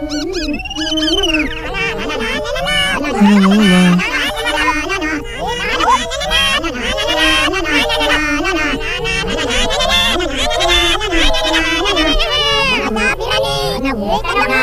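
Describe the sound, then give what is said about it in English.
Music played backwards: a dense, steady wash of instruments with warbling, garbled reversed vocals that swell and slur oddly, staying loud throughout the whole stretch. “Let's hear that in reverse.”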